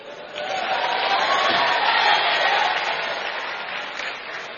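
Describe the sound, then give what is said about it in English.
A crowd applauds steadily for several seconds, a dense, loud wash of many hands clapping at once, with a few scattered voices mixed in before it gradually eases off. “I hope you were clapping for Jesus.”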